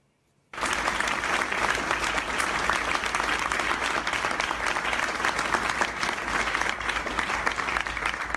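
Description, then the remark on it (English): An audience of Texas Republican state legislators and pro-Israel activists breaks into loud, sustained applause after a brief silence, applauding the Texas governor's enactment of a bill punishing speech against Israel; a dense steady clatter of many hands clapping that holds evenly for about eight seconds. “And they're applauding the enactment of this bill that's only aimed at punishing speech against Israel, not anything else.”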